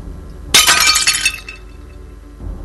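A dinner plate served with mutton shatters with a sudden loud crash, a bright burst of breaking ceramic that scatters into tinkling fragments for about a second before fading, followed by a soft low thump.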